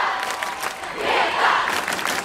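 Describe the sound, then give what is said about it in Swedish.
A large audience at a rally cheers and shouts as Greta Thunberg presents herself, a continuous, dense roar that swells louder around the middle before settling back, with no single voice standing out. “Det här är ett klipp, men det här är då hur det lät i publiken när Sveriges enda riktiga rockstjärna presenterar sig.”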